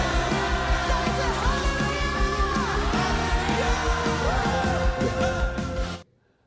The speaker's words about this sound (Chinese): 好，我们将我们掌声献给我们的主。